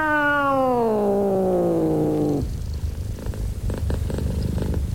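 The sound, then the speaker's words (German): A black cat lets out a long, drawn-out meow that slides downward in pitch, then settles into a low, steady, rumbling purr, with no talking. “Nostradamus, ihre schwarze Katze, begrüßte mich.”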